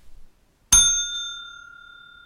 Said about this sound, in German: Ich schlage jetzt gleich die Glocke an, dann halten Sie das Video bitte an.